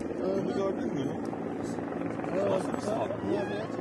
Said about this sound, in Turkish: Helikopter mi geliyor ya?